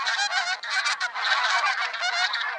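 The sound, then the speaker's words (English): A flock of pink-footed geese honks continuously, many overlapping nasal calls forming a loud, dense chorus, with no pauses and no talking. “This region was once too cold for the geese to raise young.”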